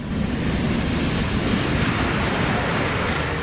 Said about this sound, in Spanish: Ese ave que estamos escuchando atravesando los campos de este país.